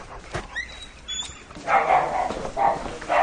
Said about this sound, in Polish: A co to są za pieski? To jakaś rasa? Nie, takie zwykłe kundelki takie są.